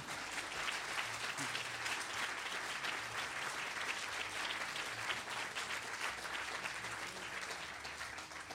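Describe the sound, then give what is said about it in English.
An audience claps steadily for several seconds, a dense, even wash of many hands with no single claps standing out, holding at a constant level before easing slightly at the end. “You can clap now.”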